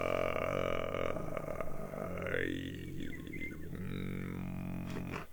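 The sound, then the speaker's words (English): A human voice imitates birdsong while sitting by a river, holding a steady, buzzy low drone while thin whistling overtones rise, fall and warble above it without pause for about five seconds. “Well, you give me a sound and let me see whether I can imitate it. For example, we are sitting by the river and just listen birds and just feel like a.”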